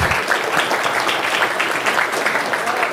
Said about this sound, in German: Insofern vielleicht dafür den ersten Applaus